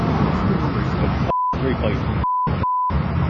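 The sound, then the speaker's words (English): Three short, steady mid-pitched censor beeps cut into a stretch of noisy outdoor sound and muffled speech, each blotting out a word, the last two close together. They censor golfer Reed's foul-mouthed reaction to a missed putt after a bogey on the 10th hole at a Champions event in Shanghai. “The downside is, obviously, I had to beep it.”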